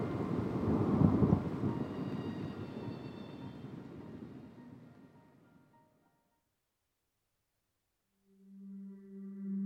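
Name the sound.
rain and thunder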